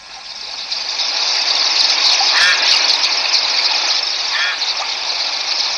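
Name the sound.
river water rushing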